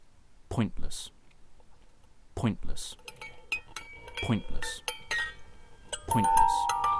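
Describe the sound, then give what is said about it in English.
A pencil turned in a slightly misshapen dog-shaped plastic sharpener, the plastic breaking the pencil tip: a run of sharp plastic clicks and small crunches, with some scraping, while a voice breaks in at regular intervals. “I had difficulty getting it in was just simply because it's slightly out of shape and the plastic of the dog is interfering with the end of the pencil there and is, in fact, breaking the tip as you turn it.”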